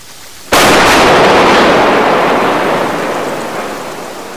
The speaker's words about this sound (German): An der Oberfläche kaum hörbar, doch unerträglich laut unter dem Meeresspiegel. Die Explosionen, mit deren Druckwellen nach Öl gesucht wird.